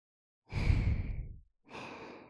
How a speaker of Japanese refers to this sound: 寝るときは何も考えないで、私の息遣いだけ感じて。